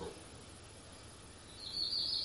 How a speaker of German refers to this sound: Können wir die Zwitschern der Vögel hören?